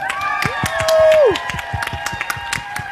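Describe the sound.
A live audience on Leipzig's Augustusplatz claps steadily in a dense patter while voices cheer, with one loud whoop rising then sliding down partway through, the applause carrying on to the end.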